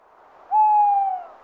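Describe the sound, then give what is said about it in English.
A single drawn-out owl hoot, a steady mid-pitched tone that rises in quickly, holds for about half a second, then fades away against a quiet background. “It's okay, Claudia. It's an owl.”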